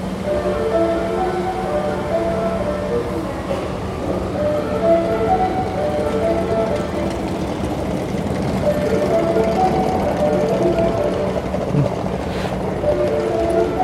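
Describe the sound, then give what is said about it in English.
A short melodic chime jingle plays over a Tokyo train station platform, signalling an approaching train, its tones clear above the steady rumble and hiss of a busy rail environment, with no one speaking. “That jingle sound means that there's a train approaching.”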